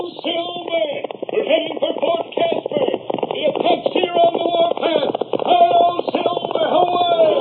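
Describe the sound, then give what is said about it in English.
Galloping hoofbeats of the horse Silver from The Lone Ranger pound steadily through the whole stretch, mixed with a dense, continuous tonal backdrop and carrying a thin, old-broadcast quality. “From out of the past come the thundering hoofbeats of the great horse Silver.”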